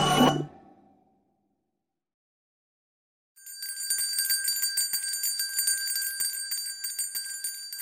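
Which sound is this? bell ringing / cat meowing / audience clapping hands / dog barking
bell ringing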